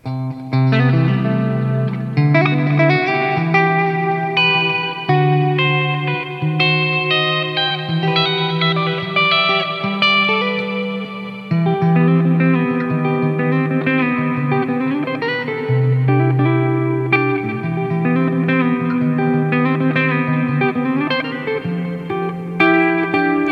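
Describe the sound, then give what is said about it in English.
A clean electric guitar plays sustained chords and melodic notes through an amplifier, steady and fairly loud for over twenty seconds, with a shimmering chorus and reverb wash and no voices. “So my clean tones.”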